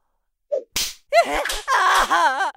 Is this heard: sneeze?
no